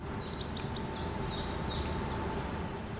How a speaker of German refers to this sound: Die Vögel geben mit ihrem munteren Gezwitscher den Ton an. Die wärmenden Strahlen der Sonne lassen die Wasseroberfläche des kleinen Weihers hier und da aufblitzen.